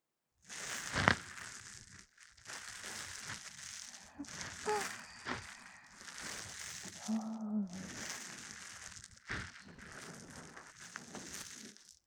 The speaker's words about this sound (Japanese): 言った通りでしょ。耳の奥までシュワシュワされてるみたいで気持ちいいでしょ。